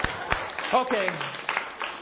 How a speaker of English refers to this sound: Round of applause!